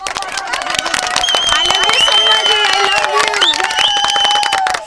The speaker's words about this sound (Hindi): एक बार जोरदार तालियों से स्वागत किया जाए इनका।